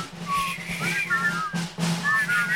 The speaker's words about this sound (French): Bon, arrêtez, arrêtez. C'est épouvantable, c'est épouvantable. Alors resifflez alors, c'est meilleur.